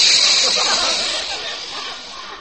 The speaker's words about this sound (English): I better comb my hair. I look like something that's seen its shadow. Well, I'll just run the comb through it lightly.